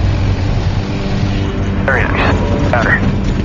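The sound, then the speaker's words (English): A C-46 aircraft landing in Norman Wells, its engines a loud, steady, deep roar throughout, with a few brief wavering, rising tones surfacing near the end. “In Norman Wells, Devin and Ian land the C-46.”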